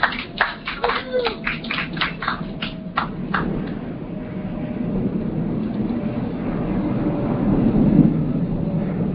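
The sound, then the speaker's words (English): An airplane passes overhead as a low, broad roar that swells steadily and peaks near the end, with a burst of sharp tapping or clatter in the first few seconds. “For everyone on the call, that's an airplane going over.”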